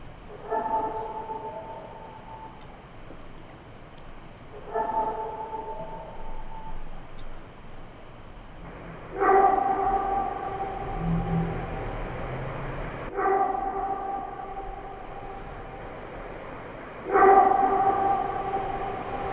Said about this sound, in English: Just the average Joe, that could sound like just a dog yiping or harping out there. Yeah, you'd have to see the visual to understand why it's not. Right. It's not a dog because of the visual print that that audio created.